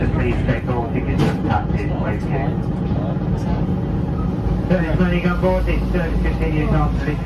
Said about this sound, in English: There you go, people, rolling into Newstead train station.